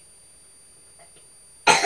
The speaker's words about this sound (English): Oh dear, maybe she can hear you coughing.